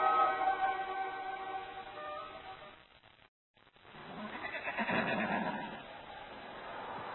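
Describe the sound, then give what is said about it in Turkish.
A horse whinnies loudly, a long quavering neigh that trails off, then after a brief silence comes a burst of rough, noisy snorting and commotion, as weapons, horses and camels are being acquired in Mecca. “Silahlar, atlar, develer alınıyor, Sakif ve Kinane kabilelerinden asker toplanıyordu.”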